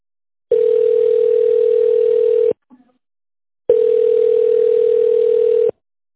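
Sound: telephone ringing tone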